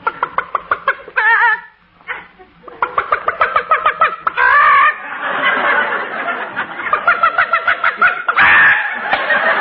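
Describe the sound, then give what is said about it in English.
A hen sitting on a nest clucks in quick, rhythmic bursts, fairly loud, with a few short gaps and some longer drawn-out cackling calls mixed in. “look at that hen sitting on the nest.”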